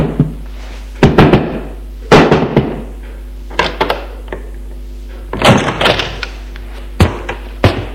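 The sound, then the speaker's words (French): Heavy, irregular thumps on the wooden door of a hotel in Paris at 9 p.m., then the door being opened by an old servant, with a faint creak and a few more clunks of the latch and frame. No one speaks. “Il frappe à la porte de l'hôtel. Un vieux domestique le rouvre.”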